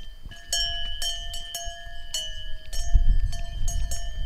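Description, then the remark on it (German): Cowbells clang irregularly from several cows grazing outdoors, including Lisa, a cow with only one horn, metallic rings overlapping with a steady low rumble of wind or movement on open pasture, no voices. “Das da ist Lisa, die da hinten, die nur noch ein Horn hat.”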